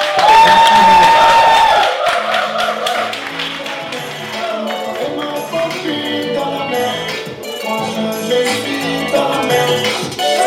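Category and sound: crowd, audience applauding loudly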